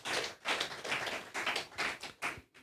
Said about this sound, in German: Überhaupt, ja, da können wir mal klatschen, ja.